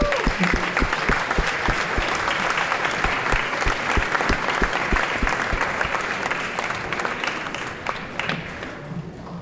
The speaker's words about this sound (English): Please applause Bob Wilson.